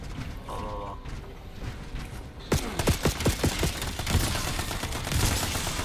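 Rapid bursts of gunfire erupt after a quieter stretch, a string of sharp, loud cracks in quick succession, followed by a dense, continuing clatter of shots and mechanical noise.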